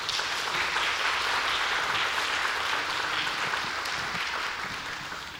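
An audience gives applause of thanks after a prayer, a steady, dense, crackling wash of many clapping hands, holding a fairly even loudness before tapering off slightly toward the end; no one speaks.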